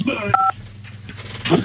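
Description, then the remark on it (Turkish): A single short, steady two-pitch telephone line tone beeps briefly as a listener's call connects to a live radio broadcast, with faint voices and room noise before and after it. “Telefonumuz var.”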